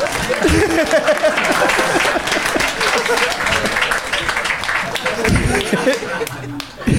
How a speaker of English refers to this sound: You can clap.